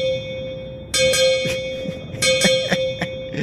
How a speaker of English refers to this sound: Now that we've heard the bell. When you hear the bells again, you'll know that the break has ended.